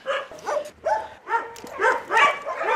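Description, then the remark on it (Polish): Several dogs bark and yip in the puppy section of an animal shelter, in quick, overlapping bursts, about seven sharp calls in under three seconds, moderately loud, with no one speaking. “Tu jest szczeniakarnia, ten maluszek niedawno trafił, jest jeszcze na kwarantannie, taki wilkowaty, śliczny, mają budy, mają zabawki.”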